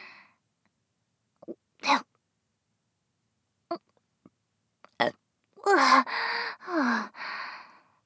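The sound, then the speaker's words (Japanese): A few soft breaths and small mouth sounds, then a clear burst of voiced burping after swallowing foamy semen: several belches in a row, each with a throaty, falling tone, fairly loud against otherwise quiet surroundings. “泡だらけの精液だったからゲップ出ちゃった。”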